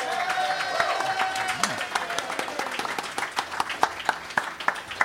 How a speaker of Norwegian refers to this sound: Da kjenner dere konseptet, og kanskje kjenner dere gjestene mine også. Stor applaus